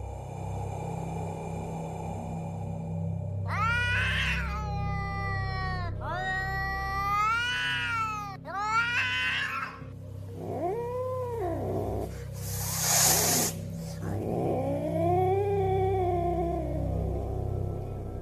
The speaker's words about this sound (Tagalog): Narinig ko muna ang paungol na pagngiyaw ng isang pusa bago ko tiningala ang pinagmulan yun sa itaas ng hagdan